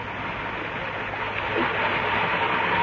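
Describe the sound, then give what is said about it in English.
A steady, dense rumble of a train at a platform of Newcastle Station, with a continuous mechanical hiss and low drone that swells slightly toward the end, no voices present. “But there was no stain on it that morning of May the 20th, 1930, when the two men, one wearing this particular shoe, walked along the platform at Newcastle Station.”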